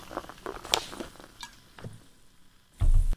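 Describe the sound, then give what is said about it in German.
A top-fermented yogurt drink from a nearby Rewe store is poured into a glass, with a few light clinks and taps of glass and bottle, ending in a brief loud rush of handling noise. “jetzt schenke ich es mir ein.”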